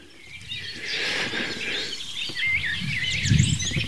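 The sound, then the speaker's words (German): A Eurasian blackcap sings from a hedge: a varied, warbling phrase of quick fluting notes, with other faint birdsong and a low background rumble underneath. “Also kann es sich nur um die Mönchsgrasmücke handeln.”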